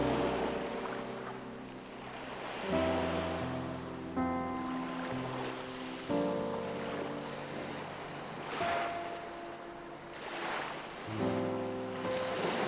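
Winter Baltic Sea waves wash in slow, gentle swells every few seconds, a soft steady surf with light wind, layered under calm sustained musical tones and chords. No one speaks.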